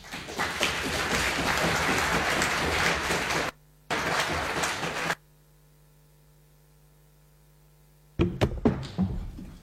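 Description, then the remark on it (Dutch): Dense applause-like noise fills the opening seconds, breaks off into a low steady hum, then a hammer is thrown onto the floor, landing with a loud thud followed by a few sharp clattering knocks. “Dus ik dacht, ik gooi hem maar op de grond.”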